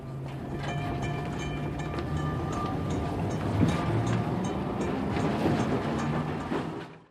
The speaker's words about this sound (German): Mit der Straßenbahn fuhr er zum Postamt.